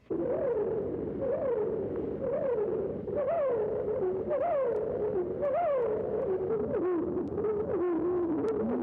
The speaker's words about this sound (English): entirely different phrases used by this bird may be heard in the following song. Such mincing chromatic patterns are never found in the songs of the Carolina wren.